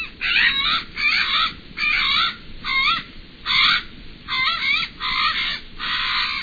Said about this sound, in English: While a previous attempt to return Alala to the wild came up short, we await the day when conditions are right to bring the sacred raven back to its forest.